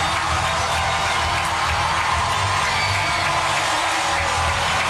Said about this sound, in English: Crowd making some noise. Everybody hanging in there today.